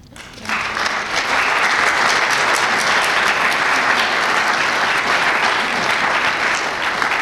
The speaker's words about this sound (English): So I just think we should give another round of applause to the young people. Thank you.